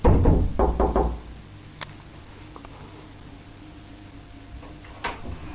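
Knocking on the door of a flat: a quick burst of several sharp raps at the start, then a few isolated knocks spaced out over the following seconds, fairly loud, with no talking.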